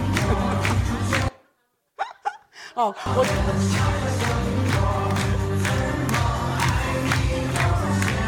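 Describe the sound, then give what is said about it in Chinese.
A crowd claps in a steady rhythm alongside one man who is dancing, over loud, upbeat music, with a brief break where a voice speaks before the music and clapping pick back up. “你看全场就只有他跳的最多，我们其他的人都在旁边拍手，他就是跳得很开心。”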